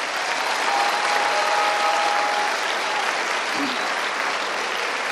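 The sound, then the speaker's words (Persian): Sustained applause from a large audience fills the whole stretch, a dense, steady wash of many hands clapping with no pauses. “این تشویق حسابی بود؟ این بود؟”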